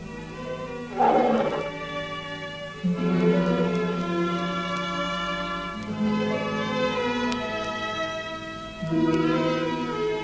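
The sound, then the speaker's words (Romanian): The tiger Rajah at the Strutski circus roars ominously at night in long, deep, drawn-out calls, several in a row with brief breaks between them. The sound is loud, with no talking. “Tigrul Rajah a urlat sinistru noapte, marcând plecarea lui Fram de la circul Strutski.”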